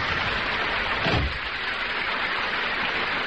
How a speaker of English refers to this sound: I stood in the rain.